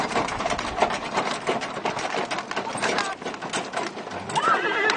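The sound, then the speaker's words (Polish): Horses' hooves clip-clop in a steady, busy patter, and near the end a horse lets out a short, loud whinny, in a hilly area where horses are the best way of getting around. “Koniem się jest najlepiej tutaj poruszać, tak po prostu.”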